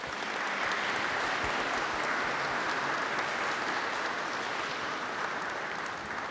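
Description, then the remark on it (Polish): Sustained applause from a large crowd in Kalisz, Poland, for the secretary of the board of the Polish Association of Defenders of Human Life, a dense steady patter of many hands clapping at an even, loud level throughout, with no voices standing out. “Wielkie brawa.”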